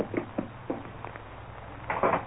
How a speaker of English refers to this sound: Enter and close door.